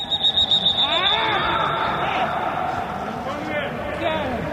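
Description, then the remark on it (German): A football match between RB Leipzig and Leverkusen on a Sunday, played in an empty stadium with no fans allowed because of Corona: scattered shouts and calls from players over a steady murmur, with a thin high tone running throughout and no crowd noise. “So klang das Spiel. Ganz ohne Fans am Sonntag zwischen RB Leipzig und Leverkusen.”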